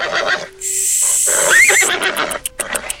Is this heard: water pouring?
no